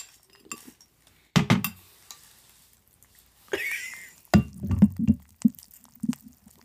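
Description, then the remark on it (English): Cereal crackles and pops with scattered sharp clicks as milk is poured, a brief splashy pour in the middle and a few louder clinks like a spoon against a bowl. “I hope you could hear this. Hear the snap, crackle, pop.”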